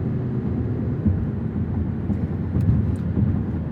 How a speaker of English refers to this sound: you can hear all the thumps and bumps and expansion cracks we're running over. That's another thing about the roads here, is that they have to have these, again, because of temperature differences. So mostly what you're going to hear is road noise